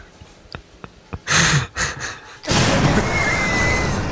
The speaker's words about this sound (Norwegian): Selve punchen i reklamen fikk da en eksplosjon over seg.